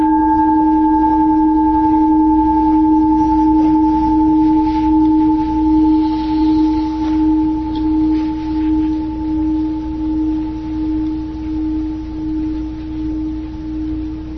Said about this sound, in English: So we'll sit for 45 minutes. I'll ring the bell when we start and when we end.